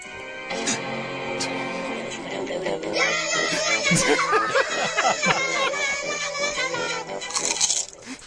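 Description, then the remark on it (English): The combined "Bite of the Apple" theme: a short, bright musical jingle with sustained tones, broken by a double crunch, two crisp bite sounds like teeth sinking into an apple, with the music swelling louder in the second half. “So the combined Bite of the Apple themes, huh? Double crunch.”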